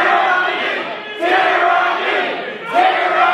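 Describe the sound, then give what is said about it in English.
A crowd of armed protesters with guns screams at police at the Michigan Capitol building in a loud, continuous roar of many voices, with sharper surges of yelling breaking out about every second and a half. “Now, going to a protest with guns and screaming at police would not happen in Vietnam.”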